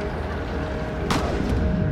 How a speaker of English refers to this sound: She doesn't know it yet, but that was a gunshot. It missed its target, but the second one won't.